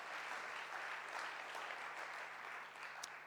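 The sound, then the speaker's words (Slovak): A crowd claps together in praise of the Lord in a dense, sustained wash of applause, steady and fairly loud for a few seconds, with no voices standing out. “Môžeme dať potlesk Pánovi za to.”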